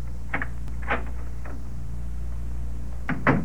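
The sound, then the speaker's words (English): The unlocked door of a small apartment by Washington Square Park opens on a hot early evening, a few soft clunks and creaks spread over a few seconds, the loudest at the end, over a low steady hum with no one speaking. “And the door wasn't locked.”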